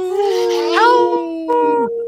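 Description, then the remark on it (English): A person imitates a wolf howl on Native Roots Radio: one long, loud vocal note that swells upward midway, holds steady, then slides down at the end, lasting about two seconds. “A legit wolf howl.”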